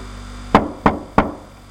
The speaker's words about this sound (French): l'homme de toute couleur s'en alla frapper à la porte du grand château.